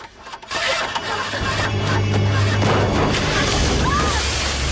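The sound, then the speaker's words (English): A man throws himself through a car's glass sunroof: glass smashes in a loud burst of crashing and scattering noise, as a woman gets the car engine to turn over and it settles into a steady, heavy rumble underneath. “He throws himself through the glass sunroof and scrabbles for her as she gets the engine to fire up.”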